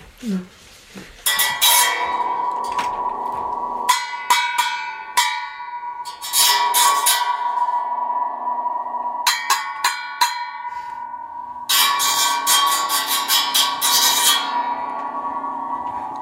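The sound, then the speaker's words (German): A homemade ratchet-like noisemaker, a hood held in the hand with a spring tensioned into the back, clatters in several bursts, a loud metallic rattling with a ringing, bell-like tone that lingers between the bursts, unaccompanied by speech. “Und so eine Haube ist das, die ich hier in der Hand halte, mit einer Feder, die hinten reingespannt ist und das macht halt einen auch urigen Lärm.”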